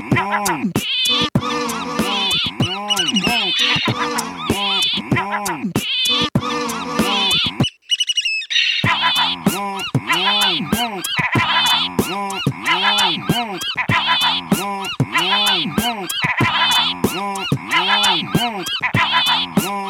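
Raspy, croaking calls of a Cassin's auklet repeat in a steady rhythm, loud, blended with a musical backing, with one brief gap of near silence partway through.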